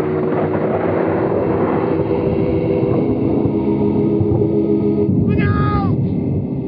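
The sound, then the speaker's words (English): Distant thunder rolls as a steady, loud low rumble filling the whole stretch, joined near the end by a brief wavering, descending high-pitched evil cackle. “In the darkness, you hear an evil cackle and the distant sound of thunder.”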